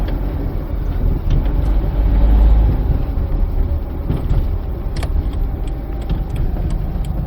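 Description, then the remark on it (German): A car drives steadily to a given address, its engine and road rumble filling the space from inside the cabin, with a swell of low engine noise partway through and a few small rattles and clicks. “Also setze ich mich in mein Auto und fahre zu der angegebenen Adresse.”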